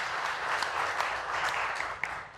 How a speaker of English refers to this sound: Clapping for your sister. Good job.